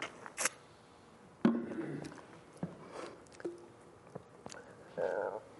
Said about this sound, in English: Let me take a sip here.